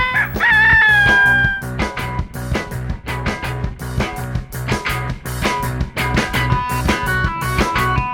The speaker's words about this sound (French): Cocorico, cocorico.